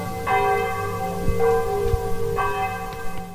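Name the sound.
village church bells ringing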